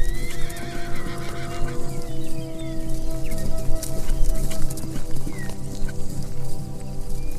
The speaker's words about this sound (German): Fröhlich wiehert die Stute dir zu, als du dich umblickst, um nach ihnen zu schauen.